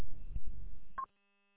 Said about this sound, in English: Phone call.